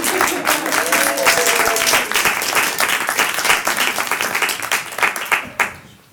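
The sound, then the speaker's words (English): A crowd bursts into sustained applause, dense overlapping claps holding steady for several seconds before thinning out and fading near the end, with a brief murmur of voices underneath. “Where's that applause sign?”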